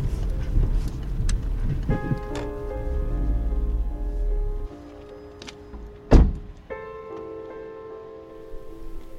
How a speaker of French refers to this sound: Je vais me garer derrière sa voiture.